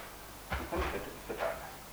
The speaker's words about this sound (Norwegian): Det er tre lås for en dør. Så du skyver inn i et hull. Og jeg låker. Det er et håndtag på ene siden, og en klaff på innsiden.